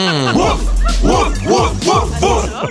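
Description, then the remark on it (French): A small dog yips and whimpers in a quick series of about five high, whiny rising-and-falling cries, fairly loud, with a low steady hum underneath. “Excuse, tu pourrais-tu empêcher ton chien de me zigner le mollet, s'il te plaît?”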